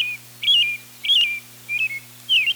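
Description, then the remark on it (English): An American robin sings in spring a string of short, clear whistled phrases, about four or five in quick succession, rising and falling, with a faint steady hum beneath. “Their sweet song seems almost literally to shout from the rooftops, "Spring is here."”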